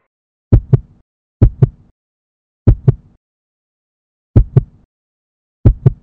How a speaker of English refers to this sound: He tries to hold on to his heartbeat, to count every thrilled thud, but he keeps losing the cadence. Or maybe it keeps changing.